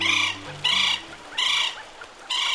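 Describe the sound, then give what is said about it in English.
A northern bobwhite quail calls, four loud whistled bursts in quick succession, with a faint low tone humming underneath. “Cuba is home to a unique population of northern bobwhites, with plumage patterns and short bills that set them apart from bobwhites on mainland North America.”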